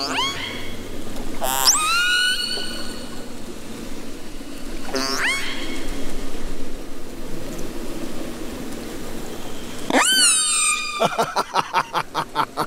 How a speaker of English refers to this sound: Now, while we've still got the sound of the dangerous whales in our head, let's listen to the fish-eating whale that's not hazardous to the average seal.